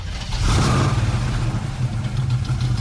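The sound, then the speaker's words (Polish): A car's deep, steady V8 engine rumble idles, its low burbling throb continuous and loud, with a slight rise in revs early on and no voices. “Piękny gulgot V8.”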